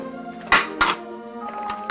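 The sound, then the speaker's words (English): Dishes clatter as they are cleared from a kitchen table, with two sharp clinks close together followed by a few softer knocks, over a steady tonal background hum. “Now Selena helps Gordon clear dishes from his kitchen table.”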